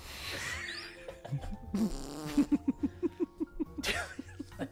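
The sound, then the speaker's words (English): A long, sputtering fart sound with a fast, regular train of buzzy pops that trails off, then a brief final squeak. It's fairly loud, with no talking. “I think we got in trouble once for putting a fart in a HelloFresh.”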